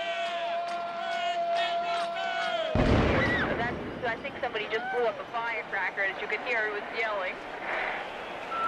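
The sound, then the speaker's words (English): A single sharp firecracker, set off by someone, bangs after a steady tone, followed at once by a crowd of people loudly yelling and shouting over each other. “Somebody just blew up a firecracker, as you could hear, it was yelling.”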